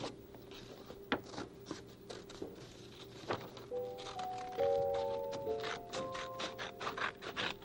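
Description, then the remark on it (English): Scissors with rounded points snip through paper, cutting out the traced outline of a hand, with irregular crisp cuts, papery scraping and rustling, and a faint low hum in the background. “Those are the lines, and then you just cut it out. Mm-hmm. Cut out the outline.”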